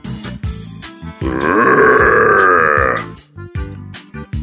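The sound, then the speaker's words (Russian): A voice imitates an orc's roar: one loud, rough, growling bellow held for about two seconds, wavering in pitch. Short guttural vocal bursts come just before and after. “От одного моего рева они на мгновение зажмурились, автоматически оборвав замах и выставив клинки на защиту.”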